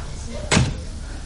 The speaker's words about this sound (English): All I want you to do is just open the door, but don't say anything. Just open the door.